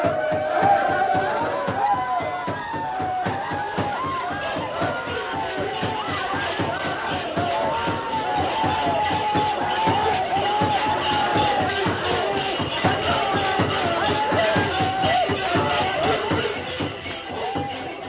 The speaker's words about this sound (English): Tonto knew the plan of the savages, and while they danced and shouted, working themselves into a frenzy, he slipped away unnoticed and joined the masked man. Then, while the shouting and stamping was at its peak, a familiar cry rang out in the night.